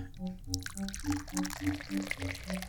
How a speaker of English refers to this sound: now I'm going to pour some tea.